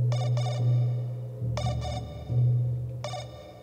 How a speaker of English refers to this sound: Thoughts finally weirding into dreams when a quiet note chimes and the phone purrs vibration.